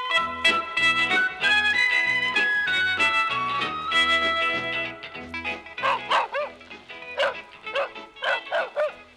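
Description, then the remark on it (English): A thirsty dog barks in a quick series of sharp, yelping barks in the second half, fairly loud, following a stretch of sustained melodic music. “That dog is very thirsty, said Gluck.”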